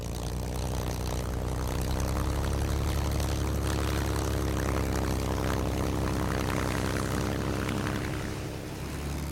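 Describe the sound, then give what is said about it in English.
A Spitfire propeller aircraft flies past, its engine droning loud, a steady rumbling roar with throbbing harmonics that swells slightly mid-way and eases near the end. No voices are heard. “When I was a child, I read about Spitfires and the Battle of Britain. This aeroplane stands for so much.”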